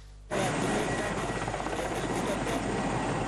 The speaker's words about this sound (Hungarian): Mi-8-as landol a szolnoki helikopterbázison. A szovjet gyártmányú helikopterekből 2 kapott a Magyar Honvédség.